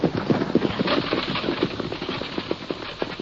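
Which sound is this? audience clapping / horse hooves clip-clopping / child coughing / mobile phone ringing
horse hooves clip-clopping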